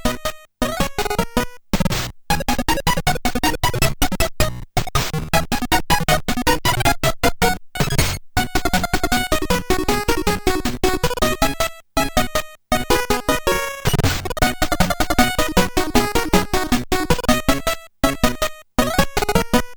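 Bouncy 8-bit music, the first track from Kirby's Dream Land for the Game Boy, plays on its own, with bright square-wave melody lines, buzzy chiptune harmonies and choppy percussive blips in a fast, steady rhythm, broken by a few short gaps.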